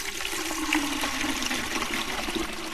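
Water gushes and splashes steadily from a pump spout, a continuous rushing pour close by with a low resonant hum underneath, no voices.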